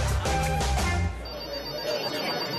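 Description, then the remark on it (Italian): A telephone rings in a few quick, bright bursts for about a second, fairly loud, then the ringing stops and a thin high tone lingers faintly. “Ho telefonato per reclamare.”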